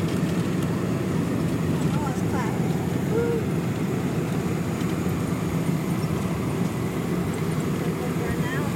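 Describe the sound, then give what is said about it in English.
A loud, steady low roar of an airplane landing and braking on the runway in San Francisco, a dense rumbling drone that holds constant throughout with faint murmuring voices mixed underneath. “Brakes. Yep, we are now in San Francisco, folks. And back on terra firma.”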